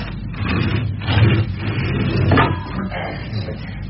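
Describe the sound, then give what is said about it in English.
A garage door rumbles and rattles as it is pulled shut, a steady grinding roll with a couple of louder clanks along the way. “Give us a hand to shut the garage door.”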